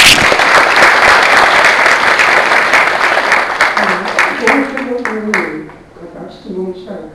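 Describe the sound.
A crowd at the end of a lecture applauds the lecturer loudly and steadily, dense clapping that fades toward the end as a man's voice begins talking over the last scattered claps.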